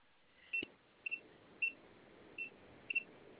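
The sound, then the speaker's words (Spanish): Five short, high-pitched electronic keypad beeps in an irregular rhythm, one with a faint click, over a quiet background hiss with no one talking; someone presses the pound key three times, then asterisk and the number 1 while entering an access code. “A ver, presionamos otra vez tres veces gato, asterisco y el número 1.”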